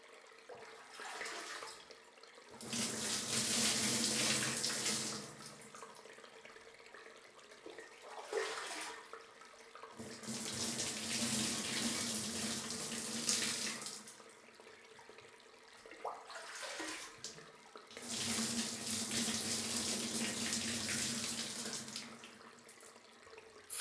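Warm running water pours to rinse soap foam off a person's back after scrubbing, in three separate bursts of several seconds each, steady, with short quiet pauses between them and no talking.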